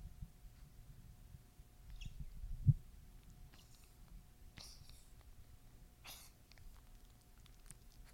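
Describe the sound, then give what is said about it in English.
A male pet cat gives a few small, breathy coughs, short raspy bursts spaced a second or two apart, faint against a quiet background with a low hum. “That was his little cough.”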